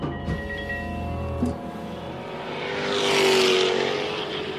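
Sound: cars driving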